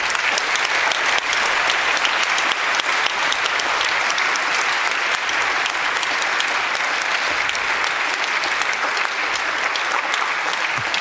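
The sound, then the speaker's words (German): Sustained audience applause for the sponsor companies at an event at the university in Göttingen, a dense crackle of many hands clapping at steady loudness for about eleven seconds with no voices over it. “Ein Applaus für die Sponsorenfirmen, bitte.”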